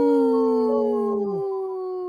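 Wolves howling together in long, steady overlapping tones, one voice sliding downward and dropping out while another holds on. Clear and fairly loud, with no talking.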